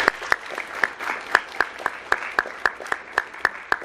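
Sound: round of applause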